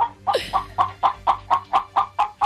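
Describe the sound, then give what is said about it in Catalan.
A year-old chicken, first thought to be a hen, clucks in a steady, rapid series of about nine short calls, fairly loud, with no talking over it. “És una gallina, però té que ser gallino. És a dir, això. Ens diu això.”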